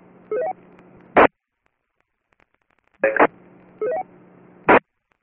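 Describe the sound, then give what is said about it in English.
A faint, garbled radio net check-in transmission breaks through static, marked by short bursts of hiss, brief rising electronic tones and a steady low hum, with any voice too weak to make out. “I could just barely hear him. I couldn't really pull him out of it.”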